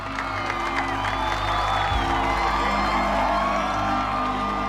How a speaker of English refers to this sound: The sergeant takes the detonator. The crowd begins to applaud Hancock.